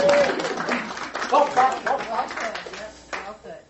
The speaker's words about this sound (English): Wait, let's give a round of applause.